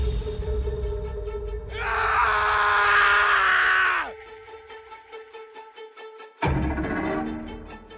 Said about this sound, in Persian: تا دکمه بالا رفتن جرثقیل رو فشار میده، به جای اینکه سرعت آهسته رو بزنه، دکمه سرعت تون رو میزنه و یه ضربه شدید وارد میشه و صدای بلندی کل سوله رو میگیره و فریاد از شدت درد همه جا میپیچه.